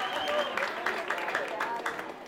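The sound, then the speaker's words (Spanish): Thin, scattered clapping from an audience, a patchy, uneven patter lasting throughout at moderate loudness, with some voices mixed in beneath it. “Esa gente que aplaude se oye muy aguada.”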